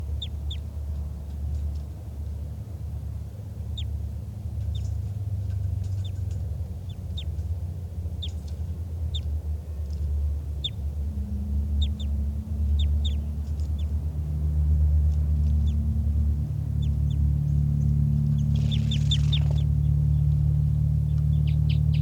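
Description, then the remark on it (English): Brief, high-pitched bird flight calls repeat irregularly throughout, thin and chirp-like, recorded by a caged bird numbered 414 with a wild bird nearby, over a steady, loud low-frequency rumble; no one speaks. “I'm not sure which bird is giving flight calls.”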